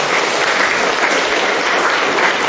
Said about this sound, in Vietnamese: Làm thì cho một tràng pháo tay thưa anh chị em.